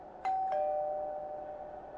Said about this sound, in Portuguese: Quando chegamos ao 7º andar, o menino correu até o apartamento 703, apertou a campainha.